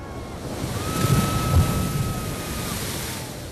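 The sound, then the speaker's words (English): An ocean wave crashes in a broad, rushing roar that swells to a peak and then settles into a steady wash of surf, with a faint sustained whistling tone above it. “The wave crashed and broke about me, cleansed me.”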